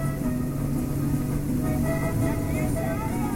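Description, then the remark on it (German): A speedboat engine on a brown river in Colombia, its motors pushing the stern up as it accelerates to as much as 80 km/h, drones steadily for a few seconds: a loud, even roar with a low humming pitch and a rough mechanical rumble that never rises or falls. “Die Kraft der Motoren drückt das Heck des Bootes nach oben und es scheint über das braune Wasser zu fliegen.”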